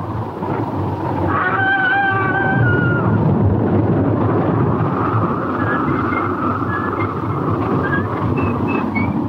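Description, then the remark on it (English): A raging thunderstorm roars steadily throughout, a dense wash of deep rumbling and rushing rain, with thin howling wind tones rising briefly near the start and again toward the end. “The storm rages on.”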